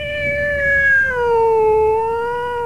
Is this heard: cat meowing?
yes